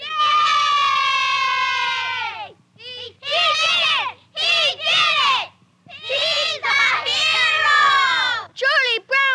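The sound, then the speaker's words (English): A crowd of children shrieks and yells in loud, high-pitched bursts, starting with one long sustained scream, then choppy waves of overlapping cheering and squealing. “You've never heard so much shrieking and yelling in all your life.”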